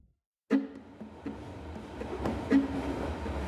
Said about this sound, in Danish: Martin Andersen Nexø sidder i S-toget, linje A mod Køge.